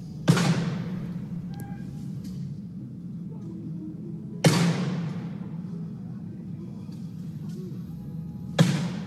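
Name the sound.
shotgun gunshots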